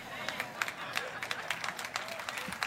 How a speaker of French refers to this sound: Je sais pas pourquoi vous applaudissez.